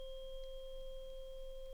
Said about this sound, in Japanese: ソルフェジオ周波数っていう 528Hz の音差なんですよ。この音は精神や DNA に奇跡をもたらすなんて言われてて、いや、本当かどうかは知りませんけど